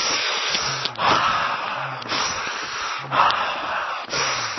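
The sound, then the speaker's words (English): Loud breathing in a steady rhythm, with forceful airy inhales and exhales cycling about once per second, with no talking. “If you can feel it in your breath, get it in your breathing.”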